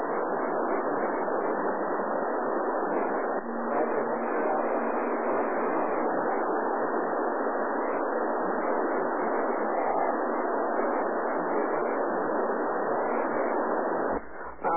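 A weak signal from a portable radio station relayed through a satellite comes through as a steady, muffled wash of static, unbroken from start to finish with no voice emerging clearly from the noise.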